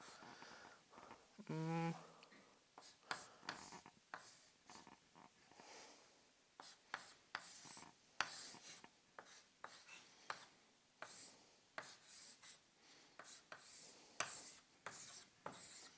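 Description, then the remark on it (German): A pen scratches across paper in quick, irregular strokes, fairly quiet, as a sketch of a pin-tumbler lock with three pins and its rotation axis is drawn; a brief hum of voice sounds near the start. “Ja, ein bisschen ungünstig gezeichnet.”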